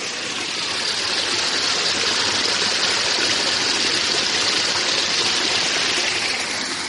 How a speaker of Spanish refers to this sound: Y ahora seguramente lo escucharéis, porque es a lo que me refería. Una serie de estructuras artificiales escalonadas, conformando una especie de cascada. Voy a acercar la grabadora para que lo escuchéis.